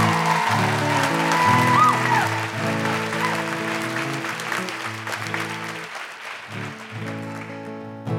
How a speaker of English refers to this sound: I just stand there in the wings and I just hear these incredible conversations and people like you guys who are just doing such amazing work, you know. Another round of applause, I think, for these guys.